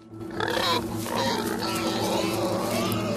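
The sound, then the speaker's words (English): A pig grunts and snuffles as it approaches a wicker basket, a run of rough, low oinks over about three seconds against a steady low background hum. “The pig's now approaching the basket, and the squirrel grabs the truffle and scarpers with it.”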